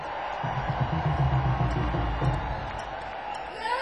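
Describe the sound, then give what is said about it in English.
A large live crowd at a music performance roars in a dense, steady wash of cheering, with scattered whoops and shouts rising out of it before the noise thins slightly near the end. “Make some noise for yourselves.”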